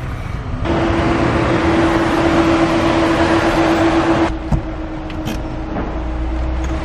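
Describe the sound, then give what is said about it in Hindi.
A car engine runs with a steady hum and rumble, then cuts down abruptly as the vehicle comes to a stop, with a brief thump and a low idle afterward. No one speaks. “गाड़ी रुको।”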